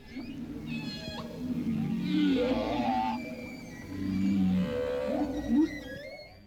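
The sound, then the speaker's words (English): Whales singing in long, wavering moans and rising, sliding calls that swell and fade over several seconds, with a low rumbling underwater backdrop and no voices. “I invite you to gently take a deep breath from your nose and exhale from your mouth as you listen to the sounds of the whales softly singing in the background.”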